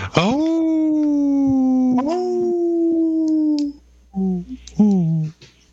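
Wolves howl in long, sustained, mid-pitched wails that rise at the start and hold steady, followed by a few shorter, wavering howls near the end. No voices are heard.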